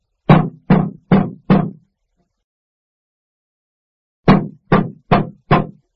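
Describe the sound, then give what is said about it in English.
Two bursts of four heavy, evenly spaced bangs on the hollow panel of a ticket vending machine, separated by a few seconds of silence. Each thud is loud and booming, with no voices. “You mustn't bang that machine.”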